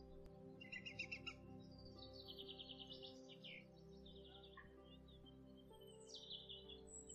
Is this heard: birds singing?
yes